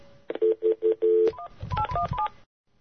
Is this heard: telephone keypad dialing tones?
yes